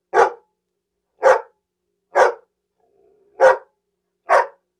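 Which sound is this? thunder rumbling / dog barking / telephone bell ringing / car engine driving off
dog barking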